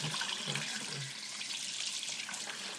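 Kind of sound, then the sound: household object, water running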